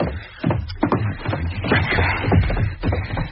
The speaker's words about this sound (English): What was that noise? I wrenched off the padlock with the poker, then smashed the door in.